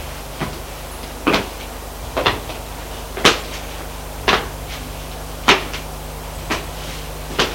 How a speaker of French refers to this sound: Elle ouvre une porte. Entrez. Il entre. C'est la salle de séjour.